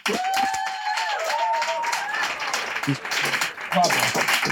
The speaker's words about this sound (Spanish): Y como hay gallegos en todas partes, pido un fuerte aplauso para Danny Boy Rivera.